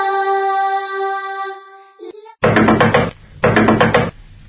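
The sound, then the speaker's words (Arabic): A sustained tonal hum fades out, then a neighbour knocks at the door: two loud bursts of rapid, forceful knocking on a wooden door, with a short pause between them and no voices. “حسنا أنا قادمة لفتح الباب.”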